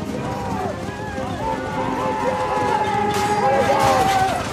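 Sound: horses galloping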